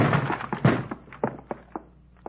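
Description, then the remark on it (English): A shoulder slams against a locked door: a burst of heavy, dull thuds at the start, then about half a dozen sparser knocks that grow fainter and more spaced out. No voices. “Door's locked. Give it your shoulder.”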